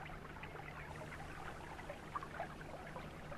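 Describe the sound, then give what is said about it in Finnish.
A person in rubber boots wades and splashes through a shallow brook carrying water from a mine, a steady gurgle of running water with a couple of sharper sloshes near the end, and no voices. “Siis tämäkin puro, jossa matka seurani luttaa kumisaappaineen.”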